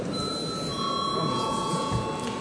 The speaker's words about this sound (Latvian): Debates slēdzu. Lūdzu zvanu.